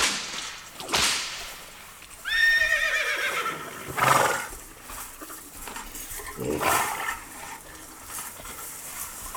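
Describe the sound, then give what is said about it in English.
A horse whinnies loudly with a rising, quavering cry, set among several sharp, snapping cracks spaced a couple of seconds apart, with no one talking. “I think we could talk over the horse eating into hay.”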